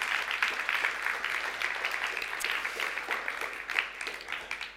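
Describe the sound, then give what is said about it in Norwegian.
A crowd at a church service applauds steadily to welcome viewers following on web TV, many hands clapping in a dense, crackling wash that holds at an even level for several seconds without any voices. “Skal vi gi de som følger med på web-tv også en god applaus og velkomst.”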